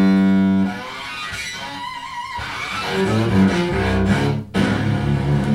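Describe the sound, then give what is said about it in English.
A cello bowed hard down close to the bridge, with a harsh, gritty, distorted-sounding tone in rough sustained strokes, made by bowing technique alone without any pedals, heard alone without any voices. “So those are sounds that, that's not done with any pedals, distortion pedal or anything. That's just a bowing technique.”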